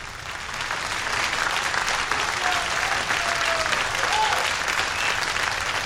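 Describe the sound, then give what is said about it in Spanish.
A crowd applauds steadily, the dense clapping sustained at an even level throughout, with a few faint whistles or cheers rising briefly above the noise. “Todas las monstruas y monstruos le dieron un gran aplauso.”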